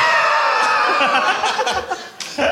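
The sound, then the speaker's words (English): A person imitates a cow's moo with a drawn-out, strained, rather high-pitched voiced call lasting a couple of seconds, wavering and breaking up toward the end. “in order to make that, the cows go.”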